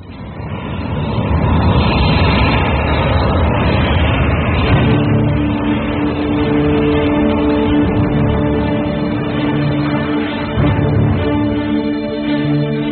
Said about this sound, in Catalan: escoltareu so d'avions. Són els de veritat, els que escolten els veïns, no estan forçats. Val la pena perquè es comprendrà millor la dimensió del problema.